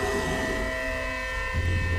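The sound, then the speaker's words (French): A pod of whales calling together: long, steady tonal moans layered at several pitches over a continuous low rumble, with a deeper, louder call rising in toward the end. No one speaks. “Oh, attends, là, il y a un paquet de baleines, là.”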